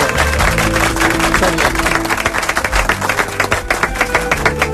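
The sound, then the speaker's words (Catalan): A crowd applauds steadily, dense rapid clapping that stays loud and fairly even throughout, with a faint sustained tone running underneath. “Un aplaudiment a vosaltres.”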